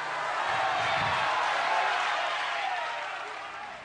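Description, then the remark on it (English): A large crowd in Argentina applauds loudly and steadily for Cristina Kirchner and her husband as she thanks him, a dense wash of clapping with some cheering mixed in, holding strong before tapering slightly toward the end. “Argentina's power couple got the biggest applause of the night when she thanked him, calling him her life's companion.”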